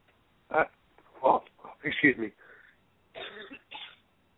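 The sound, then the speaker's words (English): A series of rough, throaty coughs in uneven bursts, several loud hacking blasts followed by a couple of shorter, raspier ones, with no words spoken. “It was a throaty, manly cough that I had.”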